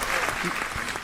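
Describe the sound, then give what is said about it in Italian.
Steady audience applause, a dense wash of many hands clapping at an even, moderately loud level for the whole brief moment, with no voices standing out. “Ok, applausi. Applausi.”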